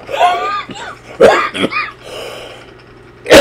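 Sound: cough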